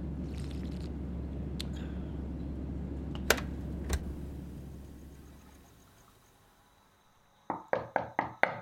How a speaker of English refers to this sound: At around 11 o'clock, I heard him in his room. I'm like, did he come in through the window? I crept back to his door and I knocked.